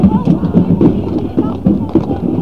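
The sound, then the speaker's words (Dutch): Hooves of police horses clip-clop in a steady, uneven walking rhythm as the horses walk back and forth on a small road to an entrance, with a low murmur of crowd voices underneath. “Nou, ik zie eigenlijk niks behalve dat die paarden heen en weer lopen.”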